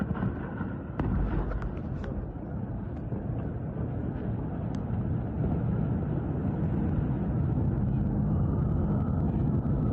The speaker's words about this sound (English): But first, we got to show some airstrikes.